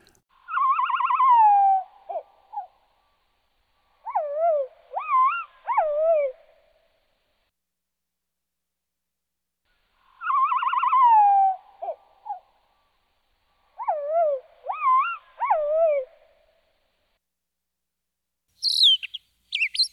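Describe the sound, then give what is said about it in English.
Slowed-down bird song fragments: two identical sequences of drawn-out, lowered whistles and warbling notes, then a brief high, quick burst of the same song at normal speed. No talking, and clear silence between phrases. “Okay, I'm going to play each of these song fragments twice on slow speed, and then once on normal speed.”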